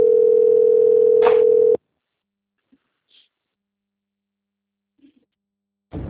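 A loud, steady telephone tone holds one unbroken pitch for under two seconds, then cuts off abruptly into near silence, with a faint click or two and another burst right at the end.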